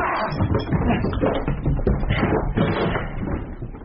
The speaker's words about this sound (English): What's that? Why is he knocking at the door? Dear God! The door's barred! Let him break it down! Hurry! Hurry!